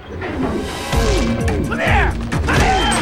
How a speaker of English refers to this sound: Jarrod pushes Bryce down as Bates fires the spear gun. It hits the cockpit dashboard.